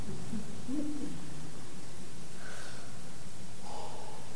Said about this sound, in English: Listen to the brain fever bird. He sings his heart out with us every week until it is all finished, and then he just has to listen.